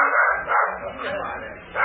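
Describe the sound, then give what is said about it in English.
Several tracking dogs following a scent bark and yelp over one another in a continuous, excited clamor, fairly loud, with no pauses between the overlapping barks. “This fool will throw the dogs off the scent.”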